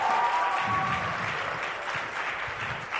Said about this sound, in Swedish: Ge det här gänget en applåd också. Fantastiskt bra.